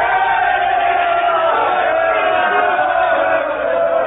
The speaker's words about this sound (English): What means this shouting? I do fear the people choose Caesar for their king,